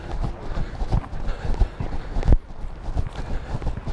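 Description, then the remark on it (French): Rapid hoofbeats of racehorses clatter in a steady galloping rhythm, fairly loud, with one sharper thud partway through and no voices. “Comme les chevaux de course.”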